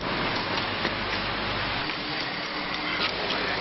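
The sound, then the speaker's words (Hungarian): Steady, dense freezing rain falls throughout in Budapest, freezing onto everything, a continuous hiss with fine pattering and occasional sharper ticks of drops striking a hard surface, even in loudness, with no voices. “Mindenre ráfagyott az ónos eső.”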